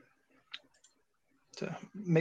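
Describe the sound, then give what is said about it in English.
A couple of soft button clicks tap out in the quiet as buttons are clicked to switch screen layouts, then a voice starts talking over the remaining second. “I'm clicking buttons around for this director job.”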